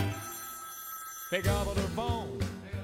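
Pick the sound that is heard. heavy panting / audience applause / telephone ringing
telephone ringing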